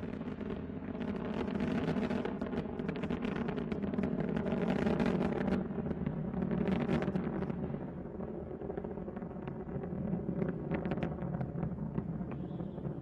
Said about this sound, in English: Three engines now throttling down as Endeavour passes through the area of maximum dynamic pressure on the vehicle in the lower atmosphere. Approaching 1 minute into the flight.